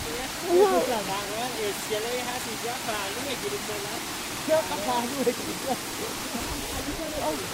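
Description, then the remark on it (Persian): A steady, broad roar of rushing water from a waterfall fills the whole recording while people talk over it. “الان تو آب، الان که به اینجا رو از دختان شروع میشه همینجوری میره.”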